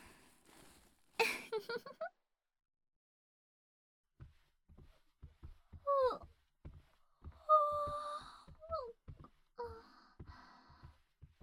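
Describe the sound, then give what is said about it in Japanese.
A woman gives a short, breathy yawn with a rising voiced groan, then falls quiet before soft scattered taps and a few drawn-out murmuring sighs follow. “ごめんなさい。私、あくび。”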